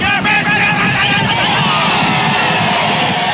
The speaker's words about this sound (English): The Spring Racing Carnival continues this week at Flemington, and so too does the time-honoured tradition of shouting at horses.